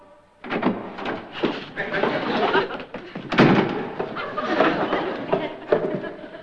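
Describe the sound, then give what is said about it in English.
A heavy door crashes down with a loud thud, followed by several more bangs and a sustained rattling clatter that continues for several seconds. “Probably a sudden draft blew it down.”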